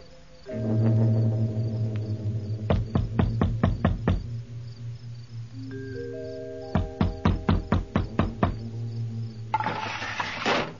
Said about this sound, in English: They're asleep. You'll have to knock on the door. Bell's broken.